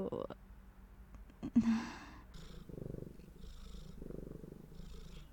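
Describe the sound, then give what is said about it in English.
A person imitates a cat's purr, a steady rumbling that swells and fades in rhythmic pulses, like slow breaths in and out, following a brief breathy sound. “What? I'm not purring?”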